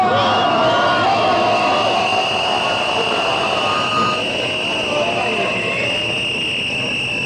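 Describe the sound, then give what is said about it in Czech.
A loud, dense crowd roars steadily at a protest by the civic initiative Ne davimo Beograd, demanding a restaurant be closed, during a speech by Dobrica Veselinović; voices overlap into a constant din, with a sustained high whistle-like tone running through the noise. “Da čujemo delić atmosfere i deo govora Dobrice Veselinovića, također iz građanske inicijative Ne davimo Beograd.”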